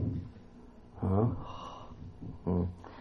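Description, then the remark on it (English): Two loud breaths rush straight into the microphone about a second and a half apart, each a short heavy huff over a quiet, hissy background. “Well, seems like I got a lot of breathing going on there, doesn't it?”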